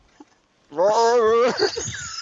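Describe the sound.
A man lets out a loud, close growl lasting about a second, his voice wavering and rumbling before breaking into rougher, noisier grunting sounds.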